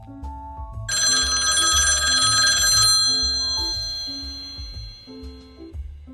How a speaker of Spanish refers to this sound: Y antes de que pudiera continuar... sonó el teléfono.